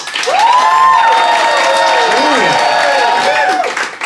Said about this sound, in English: applaud now